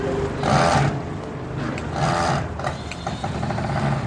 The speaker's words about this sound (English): So this week, there's hammering and drilling as store owners in the Bronx rebuild. They'd hope to be reopening.